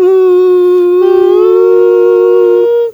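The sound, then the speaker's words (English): A dog howls in one long, steady wail that holds its pitch and rises only slightly before cutting off after about three seconds, with no talking. “Okay, now your dogs are freaking out”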